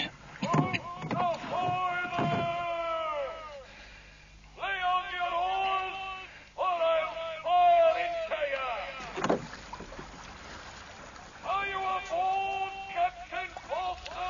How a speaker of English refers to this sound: One of our guard boats, sir.